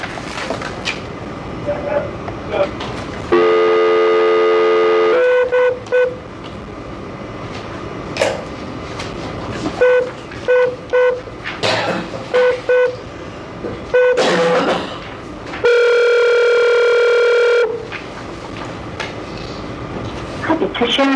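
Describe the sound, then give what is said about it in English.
A telephone call being placed to the Arizona Board of Executive Clemency: a run of short dialing beeps, then two long, steady ringing tones a few seconds apart, with faint background noise between them. “Okay, if I'm looking at one number, we need to try to make a phone call at this time.”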